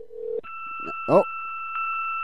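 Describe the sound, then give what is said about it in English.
A low ringback-style tone cuts off, then a steady, piercing electronic fax machine answering tone holds over a phone line, reached by dialing a fax line by mistake, with a brief voice-like burst partway through. “Oh, apparently I've called his fax line.”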